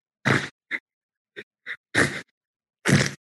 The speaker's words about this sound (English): So this happens. … is on her way to vote, and this is … gasping, I guess, in the background, and you hear … say, "So embarrassing."